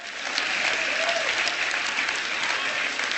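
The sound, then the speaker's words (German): Sustained applause from an audience, a dense, steady wash of many hands clapping at once, fairly loud and even throughout with no clear pauses or individual claps standing out. “Ich werde meiner Frau ausrichten, dass ihr geklatscht habt.”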